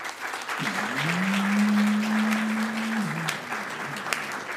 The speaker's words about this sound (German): Höflich, das ist ungefähr den Applaus, den ich erwartet hätte.